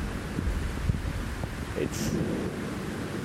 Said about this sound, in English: It's cooling, refreshing, revitalizing, regenerating, glorious rain. And it's wonderful. It's wonderful. Welcome to a summer thunderstorm.